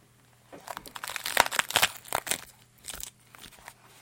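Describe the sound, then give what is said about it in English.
Loud crunching of someone biting and chewing fresh raw cabbage, a series of crisp, brittle snaps and crackles in an uneven rhythm with no talking. “But listen to this when you bite on the fresh cabbage.”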